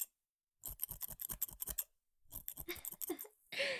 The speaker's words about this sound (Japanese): はい、ハサミをすきばさみに変えました。髪の量の多い部分をすいて、全体のシルエットを整えております。